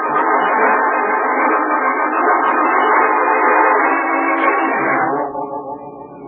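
Busy train station noise with trains at Grand Central Station, a loud, dense, steady wash of sound holding for about five seconds before dropping to a quieter background hum. No one speaks.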